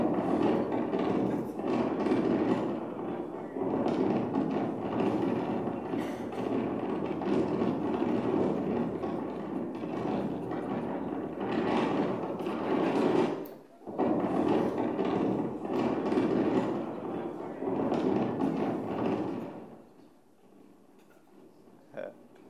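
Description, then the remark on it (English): Strong wind on the Sea of Galilee in the Holy Land in January roars steadily for about twenty seconds with a rough, buffeting texture, dips briefly midway, then cuts off into near quiet with a faint tone near the end. “It's windy. Was that windy?”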